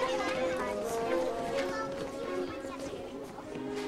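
Overlapping children's voices chatter at once in a busy, steady babble, with no single voice standing out, while footsteps and movement suggest a group leaving a classroom together.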